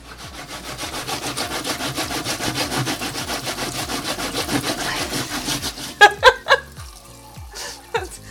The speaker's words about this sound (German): Wenn ihr dieses Geräusch vermeiden wollt, das ist jetzt Schrubben der Schablone, dann stellt euch irgendwie eine Schüssel mit Wasser oder einen Teller mit Wasser hin, wo ihr die gleich reinschmeißt.